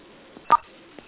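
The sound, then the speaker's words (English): A single short telephone keypad tone on a conference call, a button press for the star-code mute controls (star 6 to mute, star 7 to unmute). It is a steady dual-pitched beep with a couple of faint soft clicks before and after, over a quiet line hiss. “Muting is star 6, unmute is star 7.”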